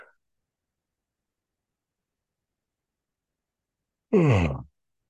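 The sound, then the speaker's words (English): A single breathy yawn, fairly loud, sliding downward in pitch for about half a second after a long stretch of silence. “In a minute after I yawn one more time.”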